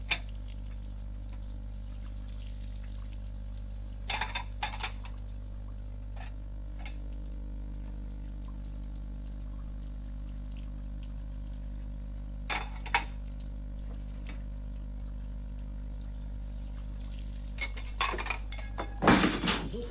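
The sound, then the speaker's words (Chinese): Dishes being washed by a father after dinner: scattered clinks of crockery and glass every few seconds, with a short rush of running water near the end, all over a steady low background hum. “吃吧，吃完了饭爸爸洗碗”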